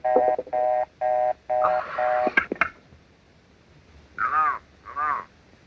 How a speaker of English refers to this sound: Ringing Murray Hill 35097.